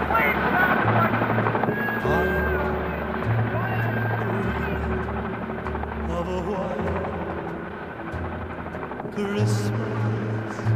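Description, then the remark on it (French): Helicopters of the US 7th Fleet thunder overhead, evacuating Americans and Vietnamese from the roof of the US embassy in Saigon, from the documentary Histoire du Vietnam, Adieu Saigon; a steady rotor chop pulses through the low end, with a busy layer of radio chatter and noise mixed over it. “Extrait du doc Histoire du Vietnam, Adieu Saigon, avec évidemment, si l'on convoque votre mémoire sonore, Sabine Wynne, le bruit des hélicoptères rejoint par un fond de radio.”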